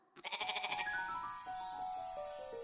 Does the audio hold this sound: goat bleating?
yes